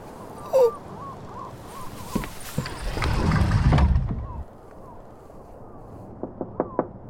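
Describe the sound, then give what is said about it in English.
A quick series of three or four sharp knocks on a door near the end, preceded by some muffled shuffling and rustling noise, with a faint tonal whistle-like sound early on. “Knock, Siva.”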